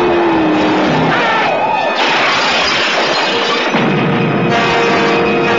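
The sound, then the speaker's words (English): A car engine roars and shifts pitch under a dense wall of loud, chaotic noise, with crashing and smashing sounds piling up around it throughout. “I think I hear the engine of that car.”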